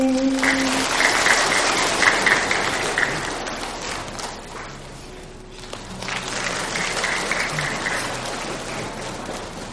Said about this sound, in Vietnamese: Không quý vị, được rồi, để chốn chúng ta cho một tràng vỗ tay tán thán